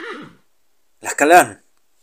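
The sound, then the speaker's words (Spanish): A brief breathy vocal sound, then a short, wavering whinny that sounds voiced by a person imitating a horse, moderately loud, with silence around it. “Siento como una serpiente en mi cara, cálida, húmeda, y escucho el relincho.”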